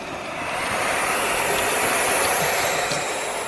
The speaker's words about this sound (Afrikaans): Die nonnetjies uile klink soos 'n radio wat nie lekker opvang nie, maar net so.